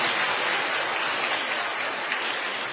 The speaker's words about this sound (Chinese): 我们再次鼓掌，谢谢他的见证，感谢主。